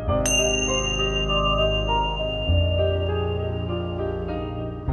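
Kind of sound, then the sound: signal or alarm, small bell ringing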